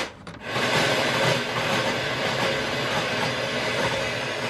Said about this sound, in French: Les plus en vue sont le balayage de la bande FM, de vieux postes radio, en continu comme ça.